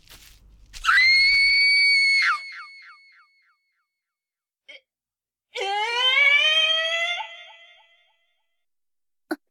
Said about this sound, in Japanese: 今の悲鳴？ 露天風呂の方からですわ。 何か出やがったか。